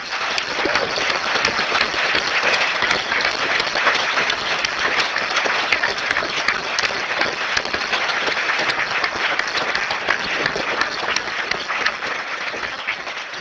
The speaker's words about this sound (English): Red Hat, Novell, Oracle, and Trolltech. OpenQuery, Fosmart, Sigil Studios, Dria, I never did get to find out which way to say that, and Intellect, and Linux Magazine, Open Channel, Builder AU, Debortly, Arnet, and SecurePay. Huge round of applause.